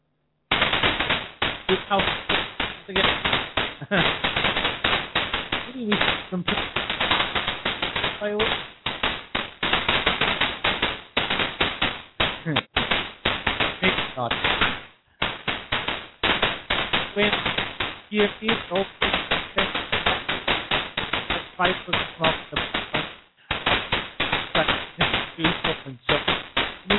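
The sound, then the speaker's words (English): Fireworks crackle and pop in a loud, relentless barrage of rapid bursts, with only a couple of brief pauses, sounding slightly muffled as if heard over a phone line. “So let's press this button and hope that it's Wayne on the end and not the fireworks.”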